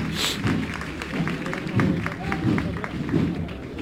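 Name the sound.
crowd applause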